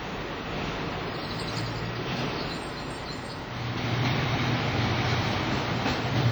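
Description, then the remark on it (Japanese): A steady, continuous rumble of a streetcar in Kagoshima, Japan, rolling along its rails, growing slightly louder partway through, with a low mechanical hum and no voices. It is Japan's southernmost streetcar line, opened in 1911. “明治維新で活躍した西郷隆盛の出身地鹿児島に路面電車が開業したのは明治時代1911年のことです。”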